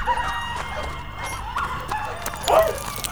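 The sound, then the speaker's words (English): Dogs bark in the distance, a few scattered yelps and barks at irregular intervals over a steady low rumble, with one slightly louder bark toward the end. “But he could hear the men and dogs in the distance.”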